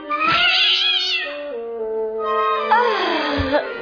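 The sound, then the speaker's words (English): A loud, drawn-out cat yowl, rising and wavering, followed by a second long, strained meow, with no talking. “That's the worst cat of all!”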